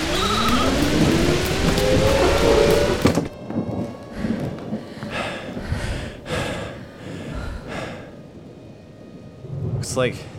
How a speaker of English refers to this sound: Looks like we may be here for a bit. It's gonna be a while before the storm blows over.